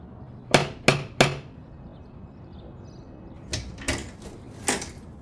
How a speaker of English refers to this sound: Knock on the door.